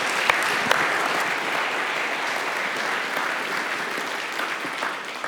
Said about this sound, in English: Great guests. Let's give a round of applause for our panel.